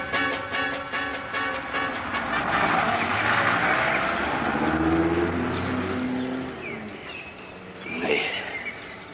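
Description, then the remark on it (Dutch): The heavy engine of a bus, not a city bus but one from Esmara about 10 kilometres away, drones loudly, its pitch rising and shifting as it passes by, then fading slightly with a brief sharper sound near the end. No one speaks. “Deze bus staat hier ook niet. Dat was geen stadsbus, hè?”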